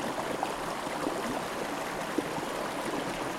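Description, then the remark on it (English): Steady, even hiss of rain falling outdoors while the sun is out, a dense wash of tiny patters with no pauses, moderately loud, with no voices. “Even though the rain's kind of got worse.”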